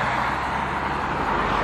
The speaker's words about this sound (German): Ganz schön viel Verkehr. Ja, ganz schön viel. Auto 2 und 3.